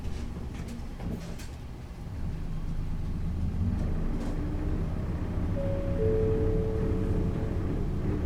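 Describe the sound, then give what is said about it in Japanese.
Steady low engine rumble inside a Kawasaki Rinko Bus city bus on the move, approaching the JFE-mae stop, swelling a little after the first couple of seconds, with a thin rising whine appearing near the end. No one speaks. “運転中は事故防止のため、やむを得ず急ブレーキをかけることがあります。”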